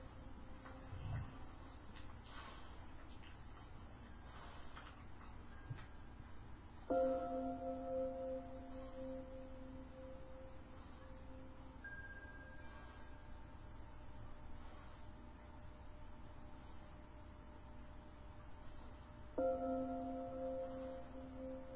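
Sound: tibetan bells ringing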